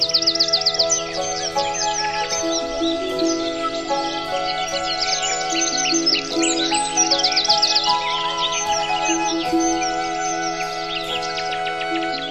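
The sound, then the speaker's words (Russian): A dense chorus of many forest birds gathered in an oak tree, chirping and singing at once, bright overlapping tweets and trills filling the whole stretch at a steady, lively level, with no talking. “Цвенькали, чирикали, пели, словно что-то спрашивали или о чем-то говорили.”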